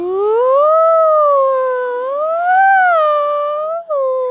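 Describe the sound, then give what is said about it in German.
A ghostly howling sound effect: one long, loud, eerie wail that slowly rises and falls in pitch, with a brief break just before the end, and no talking. “Das Gespensterheulen macht uns in Horrorfilmen alle eine Gänsehaut.”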